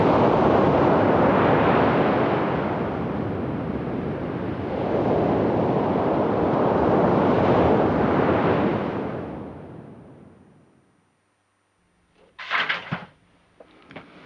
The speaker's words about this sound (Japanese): 太平洋の波は変わらず荘厳な音を奏でていました。荒浜深沼海岸でした。